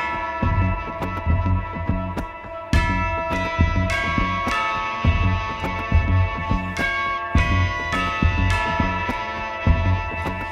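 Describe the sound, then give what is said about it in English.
Cathedral bells ring in the morning rain in a continuous, overlapping peal, with repeated strikes and long sustained tones blending into a loud, full wash of sound, and no voices. “This rain will continue through the morning as I'm listening to the bells of the cathedral.”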